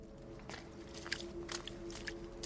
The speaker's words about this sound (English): The rustling behind me became discernible as footsteps.